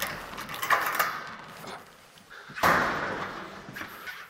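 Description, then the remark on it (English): Heavy security doors are swiped through and bang and scrape open with reverberation, with clanking metal and a loud thud near the middle, followed by echoing movement and rattling as gates are unlocked, leading to a corridor lined with cabinets in a national museum's storage warehouse. “had to swipe us through a few doors, then unlock gates that led to a corridor lined with cabinets.”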